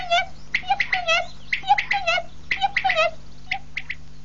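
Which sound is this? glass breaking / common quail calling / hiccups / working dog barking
common quail calling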